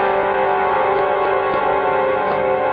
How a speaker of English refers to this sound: A foghorn is a lonely sound.